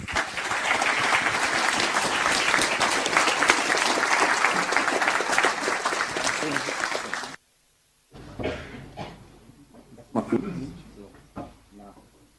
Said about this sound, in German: Ein Applaus bitte.